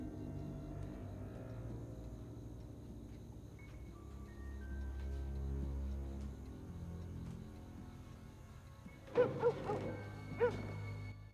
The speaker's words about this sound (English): Hearing the dog bark, she turns. She retreats nervously backwards.